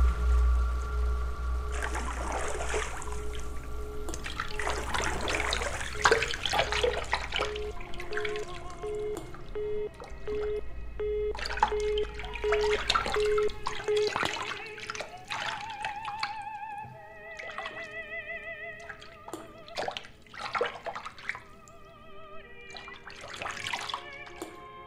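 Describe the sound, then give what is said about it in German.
Water splashes and sloshes in a bathtub filled with warm water, in irregular bursts and drips, as a person lies in it, while steady humming and whistling tones hang underneath. No one speaks. “Ich liege in der Badewanne.”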